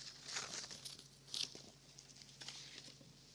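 Dry crackling and ripping of two glued pieces of paper being pulled apart, a series of quiet tearing bursts with a sharper rip in the middle, no voices.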